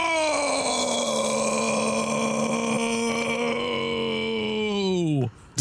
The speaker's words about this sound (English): Did you have a lot of soda to drink right before that? I'm sorry, that started as a yell and then it became a burp. I'm sorry, guys.